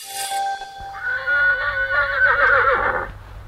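A horse neighs loudly, one long, quavering whinny lasting a few seconds that rises and wavers before trailing off, with no voices around it.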